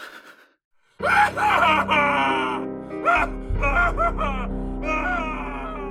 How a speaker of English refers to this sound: Your scream cuts through the empty building, where it dies alone.